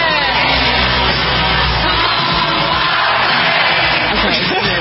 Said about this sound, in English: Yeah, it's got a ton of cheering in the background. Yes, that's it.